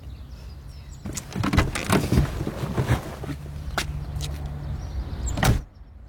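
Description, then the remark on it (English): A side gate rattles and scrapes open with a run of metallic knocks and a low grinding drone, then swings shut with a single loud clunk near the end. No one speaks. “There's a side gate we can use so he won't see.”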